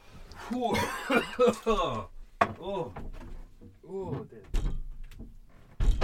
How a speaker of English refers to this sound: Door open. Windows. Sun streaming in.